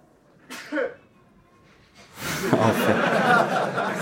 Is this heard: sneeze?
yes